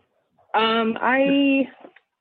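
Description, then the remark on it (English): Household dogs fighting, heard as a brief, strained, whining vocal cry in two connected bursts lasting about a second, moderately loud, with no talking around it. “I think my dogs were fighting.”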